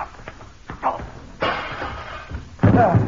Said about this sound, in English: Oh, dear, I'm afraid he broke the glass of the French doors when he fell through them.